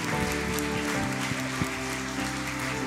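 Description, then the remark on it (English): A church audience claps hands in praise for a man after a prayer, a dense, steady wash of applause over sustained musical tones, holding at an even loudness for a few seconds. “Can we give him another hand clap of praise today?”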